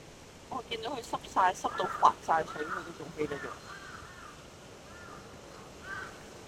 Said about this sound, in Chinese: 哇，每棵树上面都有乌鸦噶，即系我唔知道我个镜头睇唔睇到。咦？啱啱嗰一大堆乌鸦， 见到我哋行近咧，佢就走开。